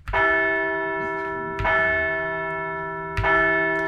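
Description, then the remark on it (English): A large, resonant bell is struck three times at steady intervals, each loud clang ringing out with long, shimmering overtones that overlap the next strike, rung to celebrate the team's first win of the 2024 season, a 5-4 comeback victory on Sunday. No voices are heard. “So let's ring the bell for win one of the 2024 season.”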